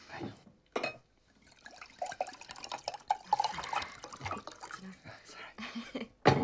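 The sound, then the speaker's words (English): A drink pours into a glass, a steady trickling splash broken by a few drips, with a faint murmur of voices in the background. “You tell me on a first date, shouldn't you be keeping my glass full?”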